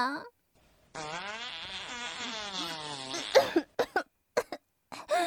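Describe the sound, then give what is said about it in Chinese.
A long, buzzy fart sound stretching a couple of seconds with a wavering pitch, followed by a handful of short, sharp bursts like coughs or clipped vocal noises. “不要再对我放屁了，好臭，好臭啊，真的太臭了。”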